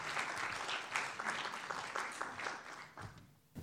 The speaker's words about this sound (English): Let's give him a round of applause as he comes to speak to us.